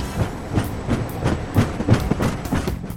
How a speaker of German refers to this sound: Mit dem Zug.